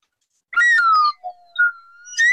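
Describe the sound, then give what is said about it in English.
A whistle sound effect, used in place of a winner whistle, plays a short series of bright, gliding tones: a couple of quick swoops, a longer held note, then a final rising blast. It is fairly loud, with no talking. “So I'm going to have to substitute for a whistle that doesn't sound like a winner, but it is a whistle nonetheless.”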